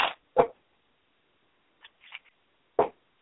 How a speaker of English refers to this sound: Okay, I'm going to shuffle these cards real quick again.